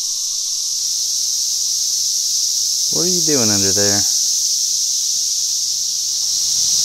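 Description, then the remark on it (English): A dense chorus of cicadas, some of them mating, buzzes steadily and loudly from start to finish, a continuous high drone. Midway a person briefly speaks over the insects. “Oh, they're doing it! They're making other cicadas!”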